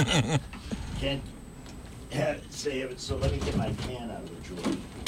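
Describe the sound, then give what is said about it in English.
A drawer slides open, followed by a few knocks and metallic clinks as a can is rummaged out of the drawer and lifted, the sounds coming in short irregular bursts. “Say it, so let me get my can out of the drawer.”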